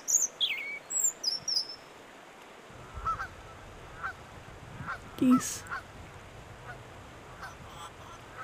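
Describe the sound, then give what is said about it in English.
Chickens cluck in short, scattered bursts outdoors within earshot of the Ottawa River, with high chirping birdsong at the start and a steady background hiss of wind. The clucks are irregular, and no one speaks. “More chickens, of course.”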